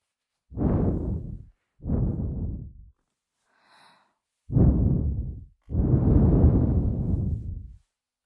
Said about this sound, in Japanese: まずは耳を攻めるとしよう。どうだ、私の吐息、熱くて心地いいだろう。